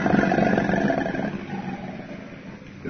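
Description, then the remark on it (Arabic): A hippopotamus call: a loud, deep, rumbling bellow that carries steadily for a few seconds, then eases slightly in volume toward the end. No one speaks. “فرس النهر ينتشر في إفريقيا ويعيش في المياه العميقة.”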